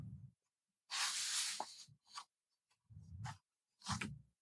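Crisp rustling and crumpling of paper in several bursts separated by short pauses, the first burst longest and loudest; no one speaks.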